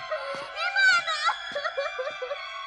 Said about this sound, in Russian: Не надо! Ну, сейчас чайку тебе. Сейчас чайку тебе, не плачь.